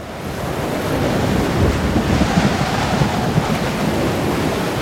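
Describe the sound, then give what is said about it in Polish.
Rough sea surf churns continuously under strong, gusting wind, a dense low roar that builds slightly and stays loud throughout, with no voices. “O nie! Sztorm niszczy płet Festeru. Łódź zaczyna się przechylać.”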